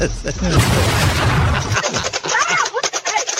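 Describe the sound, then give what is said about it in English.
A loud, roaring burst of noise gives way to a quick string of sharp paintball gun pops, fired in rapid succession, with muffled voices faintly underneath. “Oh, paintball gun.”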